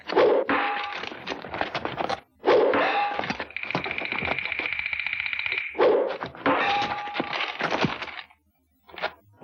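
Three forceful impacts of an arrow striking its target land a few seconds apart, each a sharp crack followed by a brief twanging ring. A steady high whine sustains between the second and third hits, with no talking.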